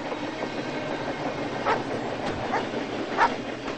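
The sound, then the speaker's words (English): A speeding train passes, a steady broad roar of rushing wheels with a few sharper rail clacks rising out of it at irregular moments, and no voices. “climb out of their parked car near a speeding train.”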